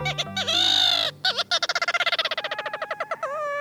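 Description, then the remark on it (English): Ross's gull calls clearly: a few drawn-out, nasal harmonic notes, then a rapid, rhythmic run of short repeated yelps that tumble into a quick chatter. “Ross's gull has a reputation for beguiling birders.”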